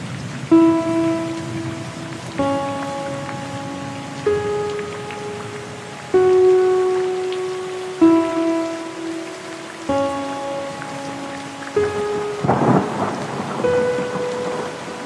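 Steady hissing rain with low thunder rumbles, including a louder burst near the end, all beneath sustained musical chords that shift every couple of seconds.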